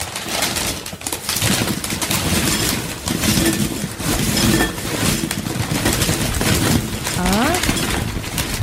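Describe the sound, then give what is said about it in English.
A dense, continuous crackling rush of chips being poured into a fragile glass bowl, loud and steady throughout, with a few brief ringing glassy tones near the end. “it's a very fragile glass bowl that they're pouring it into.”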